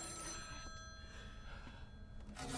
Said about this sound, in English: This phone has been ringing at night for 8 years now, confusing and enticing late-night passersby into answering it. It's a little bit of Columbia nightlife folklore.